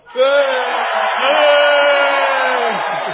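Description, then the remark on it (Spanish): A concert audience, asked for a rebellious shout and counted in on two, lets out a loud, sustained collective yell lasting about three seconds, many voices shouting together in a single rising roar before trailing off. “lamentablemente vamos a tener que marcharnos, vamos a tocar la última canción, no sin antes pedirles un grito de rebeldía. ¿A nosotros? Sí, no, a la gente.”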